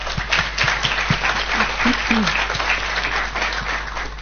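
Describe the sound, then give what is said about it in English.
An audience applauds the speakers after their talks, a steady, dense wash of many hands clapping at once, with a few faint low murmurs of voices underneath. “If we could give the speakers a round of applause, please.”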